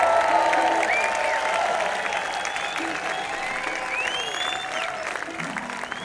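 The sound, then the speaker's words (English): An audience applauds steadily for several seconds for a music group just introduced, a dense, even wash of clapping with a few whistles and cheers rising over it, holding loud throughout before easing slightly at the end. “Give them a hand, would you?”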